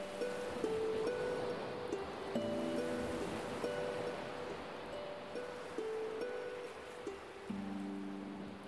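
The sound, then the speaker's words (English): Ocean waves wash steadily against the shore in a continuous, rushing hiss, with soft sustained musical notes drifting over the surf and no one speaking. “stood in silence until the last light of the sun tucked beneath the waves to the west.”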